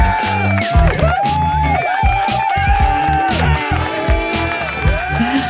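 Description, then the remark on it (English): A loud, steady wash of studio audience cheering and applause, with whoops and shouts rising above the clapping throughout, continuing without a break. “I don't often hear the intro, so I'm wondering if you have applause every week.”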